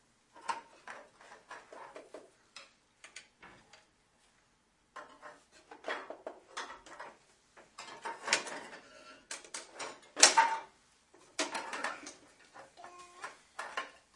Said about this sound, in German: Das ist eine Schublade. Steck die da mal wieder rein. Ja, da gehört die rein.